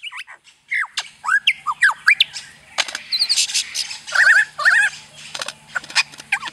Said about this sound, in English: I think we actually have some recordings of the lyrebird we can play here. Let's have a listen.